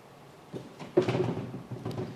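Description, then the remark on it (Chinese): A drawer squeaks and creaks as it is slid, with a few scraping bursts and a short high-pitched squeal near the middle, moderately loud with no talking, heard in a church during a sermon. “抽屉在叫的声音。”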